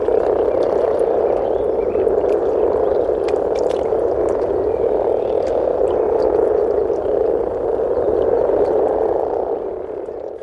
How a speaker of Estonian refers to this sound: Pruunide konnade hulka kuuluvad rabakonn ja rohukonn. Need kõik kolm konnaliiki on kohatavad üle terve Eesti ja võivad kohati esineda kudemisveekogudes üsna muljeltavaldaval arvul ja siis kostub neist veesilmadest väga võimsat konnakoori.